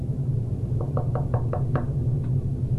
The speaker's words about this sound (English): And so you go and you knock on the door very gently.